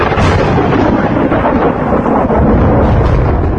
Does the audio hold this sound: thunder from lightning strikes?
yes